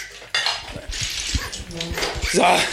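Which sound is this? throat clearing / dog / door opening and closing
dog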